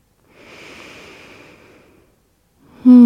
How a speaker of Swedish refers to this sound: Andas. Några långa djupa andetag. In och ut genom näsan.